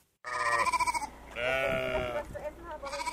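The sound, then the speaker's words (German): Several sheep grazing on a grassy settlement mound, the Hanswarft, among dozens of plastic poles with red-and-white ribbons bleat in quick succession, loud wavering cries overlapping one another, with a brief pause before another bleat starts at the end. “Schafe grasen zwischen dutzenden Plastikstangen, die dicht an dicht in der Erde stecken.”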